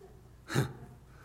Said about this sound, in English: I don't know, maybe you sneezed in your mask. I don't know.